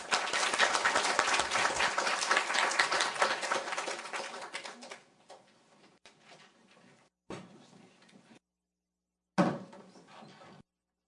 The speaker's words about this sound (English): And I think with that, we'll have to wrap up our final panel. So please join me to thank our 3 panelists with a round of applause.